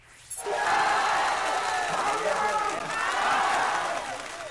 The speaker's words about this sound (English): Tens of thousands of people are demonstrating there. Riot police say they've arrested more than 200 people after protests turned violent in some areas. That crowd gathered outside the home of the king's top advisor calling for his resignation.